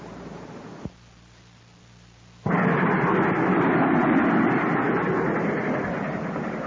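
A brief click over a low hum, then a loud, steady rumbling roar of a train on the rails bursts in suddenly and carries on, fading only slightly toward the end.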